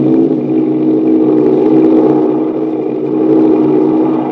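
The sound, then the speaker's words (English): An American Airlines 14-berth Douglas sleeper plane, a silver airliner, takes off down the runway on a flight to New York, its engines roaring in a loud, sustained droning rumble with steady low harmonic tones that swell slightly throughout, with no voices. “Speeding down the runway, the silver plane glides into the air.”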